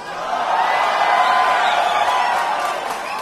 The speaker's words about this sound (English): rather than have me describe this historical launch, here's a clipping of the event with that famous and evocative countdown and all the cheering, so you get the atmosphere and hullabaloo in case you missed it last Tuesday night.